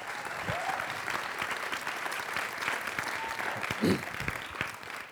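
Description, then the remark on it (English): Steady, sustained applause from an audience welcoming a speaker to the stage, a dense wash of clapping that holds at an even level throughout, with a few brief voices and calls breaking through now and then. “Will you please put your hands together and welcome”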